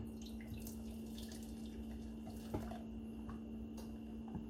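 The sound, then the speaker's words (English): Juice is poured through a strainer to catch pulp, a steady trickle of liquid splashing with a few louder drips landing, continuous for several seconds, no voices. “So I like to strain it one more time, or just once here, just to get any pulp that might have gone through.”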